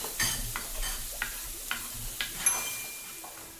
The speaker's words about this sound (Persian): خب یکم توی روغن از قبل تفتش دادم و به مخلوط گوشت و پیازمون اضافه میکنیم، همش میزنیم. توی این مرحله زیر گازمون خیلی کمه تا اجازه بدیم اینا همشون با اون آب خودشون یه ذره تفت بخورن.